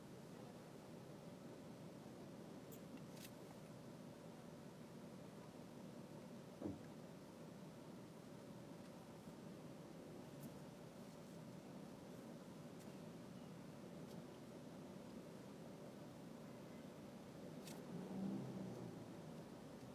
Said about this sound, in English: Some dumb shit happening in front of me right now. Just cars being cars. Cars being bad cars. That's a bad car move.